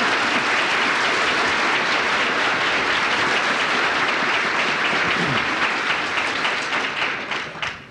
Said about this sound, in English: And I would like to hear a little applause for them because they stuck their necks out.